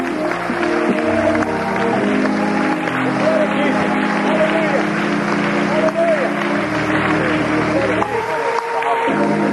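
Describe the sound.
An audience claps steadily and loudly for Jesus, a dense wash of hand claps running through the whole stretch alongside sustained singing or music, with voices heard underneath.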